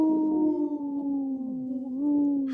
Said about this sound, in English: The dog he looks like, or the wolf he looks like, he takes another little like short howl.